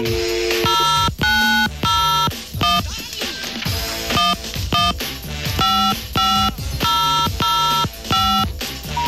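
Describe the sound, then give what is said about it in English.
Loud, rapid telephone tones beep in short repeating bursts, like a number being dialled again and again with an engaged signal, from calls to a very busy Keith Duffy voting number on the BT telephone network; a steady electronic rhythm and no voices. “It's just very, very busy.”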